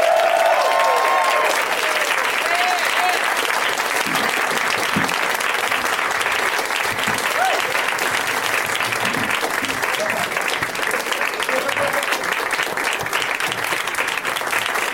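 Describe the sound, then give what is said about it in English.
Sustained audience applause at a live show, welcoming Scott Aukerman, Moshe Kasher, Kevin Allison and David Wayne as they slowly come out, fills the whole stretch, a dense steady wash of clapping at an even loudness, with a few faint voices and whoops mixed in. “It's very nice of you to keep applauding as they slowly trickle out.”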